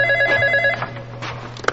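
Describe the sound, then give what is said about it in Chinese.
A telephone rings with a bright, steady electronic trill for under a second, then cuts off, leaving a quiet room with faint handling sounds and a low background hum. “接一下电话。”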